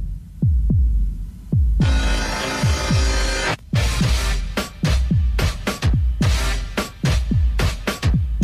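An electronic backing beat with steady, booming kick drums and crisp, sharp hits, plus a bright hissing noise sweep partway through. No voices.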